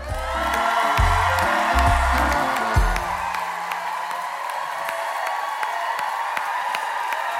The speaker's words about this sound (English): So please, can you give a rapturous applause to Lenny?